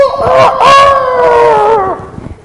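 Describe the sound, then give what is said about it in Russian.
A person imitates a rooster's cock-a-doodle-doo, a loud, drawn-out crowing call of about two seconds with a rising and falling pitch, heard alone. “Ему надо кукарекать, а не слушать, понимаете?”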